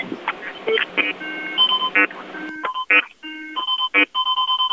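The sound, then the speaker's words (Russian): A mine detector beeps in a rapid, uneven string of electronic tones, jumping between low and high pitches with short bursts and some longer held notes, fairly loud and alone. It is used by search teams in a forest near the village of Kuzovleva, Moscow Oblast, Russia. “Звук миноискателя говорит о том, что здесь были тяжелые бои.”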